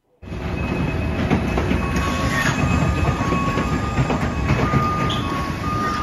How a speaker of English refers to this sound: So let's we have a little bit of tape, and I understand this is an ambulance being put into a plane as cargo. Just to put it into perspective for our listeners, let's take a listen to that.